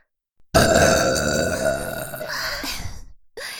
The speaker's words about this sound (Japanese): それでは4人同時のゲップいきましょう。せーの。